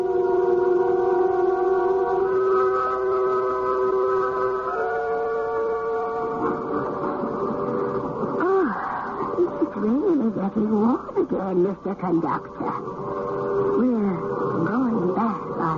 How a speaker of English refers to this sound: It's all right, folks. Now, just take it easy. No cause for alarm. It's just the new locomotive hooked up with us at last.